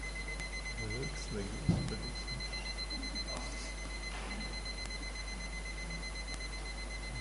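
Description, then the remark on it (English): An alarm clock rings with a steady, thin high-pitched electronic tone that continues throughout, fairly faint, while muffled voices murmur briefly in the background. “It's this clock?”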